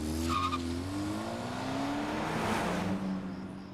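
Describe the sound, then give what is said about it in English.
A car engine revs and accelerates with rising pitch, tires briefly squealing as the vehicle pulls away, the engine note climbing steadily through the short clip. “back off at her home around 2:30 in the morning on the 24th and then drove off alone back to his estate.”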